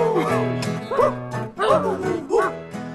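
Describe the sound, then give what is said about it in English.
A person imitates a dog to show how to make a bark when singing along, letting out three or four loud, raspy barking howls in quick succession, each rising then falling in pitch. “That, you know, if I want to sing along at home, how do I make that bark happen?”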